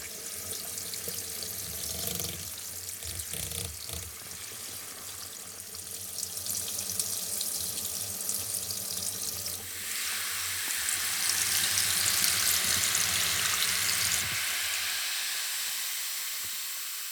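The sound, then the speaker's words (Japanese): Carbonated spring water runs steadily over the scalp with a fizzy, hissing spray, rinsing to lift dirt from the scalp and pores before shampooing, growing brighter and louder midway before tapering off. Continuous, with no one talking. “この炭酸泉で頭皮の汚れをスムーズに浮かせ、毛穴の汚れを落とします。”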